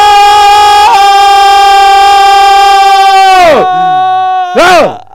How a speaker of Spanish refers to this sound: Grito masivo. Grito masivo. 3, 2 y 1.